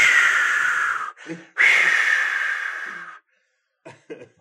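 Heavy, aggressive breathing: two long, loud, raspy rushes of air with a short gasp between them, then a pair of quick, sharp breathy huffs. No one speaks.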